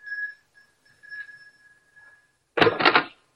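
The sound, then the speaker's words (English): A doorbell at an upstairs apartment door rings with a thin, steady high-pitched tone in several uneven bursts over about two seconds, then a short loud, harsh rattling burst ends it. No one speaks. “Just ring the bell.”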